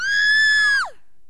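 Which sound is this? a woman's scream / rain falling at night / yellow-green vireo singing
a woman's scream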